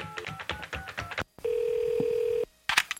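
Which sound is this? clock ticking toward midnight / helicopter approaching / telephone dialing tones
telephone dialing tones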